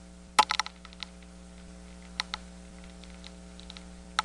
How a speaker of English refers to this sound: Now, this is a northern corn rootworm, I assume, munching away at the corn's roots. I'll go by the name here. It is. It's a Diabrotica species.